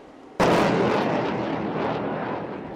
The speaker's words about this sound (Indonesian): 20 kapal perang termasuk fregat dan kapal perusak menembakkan peluru untuk mencegat dan menumpas serangan di lepas pantai timur laut Taiwan